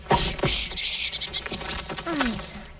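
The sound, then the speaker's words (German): A small bird pecks at freshly sown vegetable seeds in a garden bed, with quick light taps and brief high chirps over about three seconds; no one speaks. “Guckt mal, da kommt ein kleiner Vogel und will eure Samen aufpicken.”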